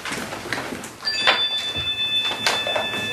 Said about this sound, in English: now we're going to go through the training of, you hear this noise, you stop and listen. It's a chime again.